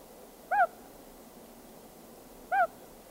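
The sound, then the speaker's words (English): A common loon gives two soft, single-note hoots, short and mellow, spaced about two seconds apart against a quiet background with no other calls or voices. “First, there's the soft, single-note hoot. This is the reassuring voice of parent to chick, or mate to mate.”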